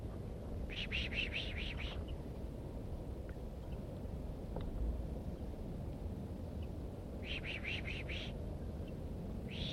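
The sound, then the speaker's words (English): Two bursts of pishing by a birder drawing a female bird down, each a quick run of five or six sharp, hissing "psh" sounds, separated by several seconds of steady low rumbling background noise. “Drawing the female down by pishing.”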